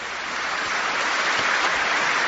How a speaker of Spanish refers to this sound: Y ahí es cuando los aplausos de toda la Basílica de San Pedro le han interrumpido, cuando quería decir que al mismo tiempo imploramos al Señor